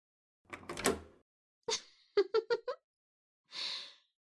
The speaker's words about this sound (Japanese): この資料室の鍵は閉めちゃったし、これで誰も入ってこれないね。